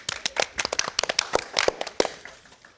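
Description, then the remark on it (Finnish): Opening applause from an audience at Oodi for the discussion participants: a burst of many overlapping, crisp hand claps forming a dense, steady patter that gradually thins and fades out over the last second. No one speaks. “Alkuaplodit teille ja keskustelijoille.”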